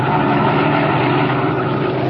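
A black sedan's engine hums steadily with a low, even drone and road rumble as it slows down along a road, its loudness holding constant throughout. No one speaks.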